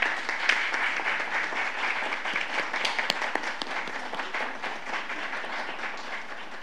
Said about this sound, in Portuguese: Uma salva de palmas para esta homenageada.